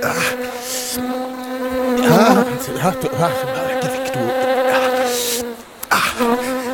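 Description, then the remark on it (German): A bee buzzes loudly inside a beekeeper's suit, its whine steady but wavering in pitch as it flits about, with a couple of brief rustles near the end; no one speaks. “Oh, da ist eine ist hier drin.”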